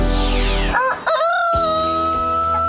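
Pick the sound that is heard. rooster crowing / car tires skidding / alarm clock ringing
rooster crowing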